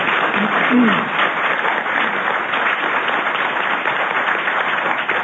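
A sustained round of applause from a crowd for a candidate introduced before a debate, dense steady clapping throughout with a brief low voice or cheer near the start.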